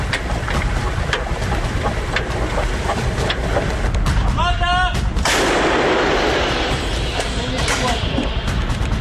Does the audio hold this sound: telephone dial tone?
no